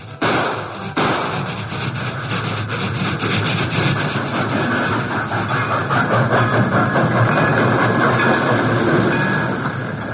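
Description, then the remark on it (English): A train approaches, wheels clattering and grinding on the rails in a dense, continuous roar that grows loud, with no voices over it. “From their hiding place behind the boulders, not far from the entrance to the cut, the outlaws waited tensely for the explosion as the train approached.”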